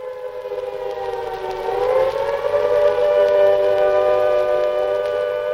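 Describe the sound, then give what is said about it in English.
An air raid siren wails steadily in Britain within 8 minutes of Chamberlain's declaration, a false alarm; its strong tone rises slightly in pitch and holds loud and sustained, with layered harmonics and no voices. “Within 8 minutes of Chamberlain's declaration, the air raid sirens began to wail, and it seemed that the worst had happened.”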